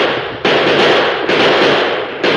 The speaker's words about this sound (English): At the first crack of the six guns, the Apaches whirled in confusion.